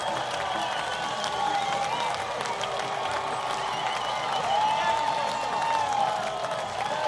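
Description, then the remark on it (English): A large, record-size stadium crowd roars and cheers steadily after Cesar Quintas's no-doubt home run into left field, his seventh of the year, putting the Giants ahead 6-4 in the bottom of the seventh inning, with dense applause and scattered whistles and shouts sustained at a loud, even level throughout. “Largest crowd of the series, and they made their impact here in the bottom of the seventh.”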